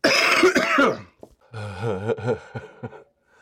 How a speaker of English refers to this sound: So, I may have gone on a coughing fit for like, I don't know, maybe about 5 or 6 minutes. So I'm just getting back from that.